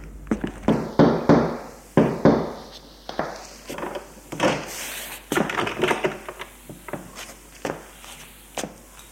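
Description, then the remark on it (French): A woman knocks on a wooden door off a long, dark hallway: a run of sharp, hollow raps scattered irregularly among softer thumps and shuffling, with no voices. “Elle frappe à une porte.”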